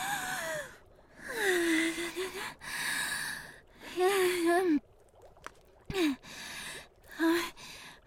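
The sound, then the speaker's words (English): Several slow, deep breaths drawn in and let out, some exhales carrying a voiced, sighing groan, with short pauses between them and no talking. “Slow breathing.”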